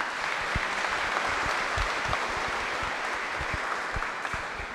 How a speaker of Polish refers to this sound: Wielkie, wielkie brawa.